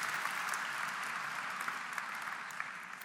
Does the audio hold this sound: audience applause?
yes